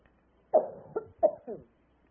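A person coughs four times in quick succession, short, fairly loud bursts in two rough pairs, with silence before and after and no talking.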